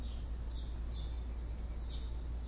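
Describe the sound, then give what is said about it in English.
A few faint, brief bird chirps in a backyard, scattered across a few seconds over a steady low background rumble as light rain begins to sprinkle, with no one speaking. “I'm actually out in my backyard having a cup of coffee. You can probably hear the birds.”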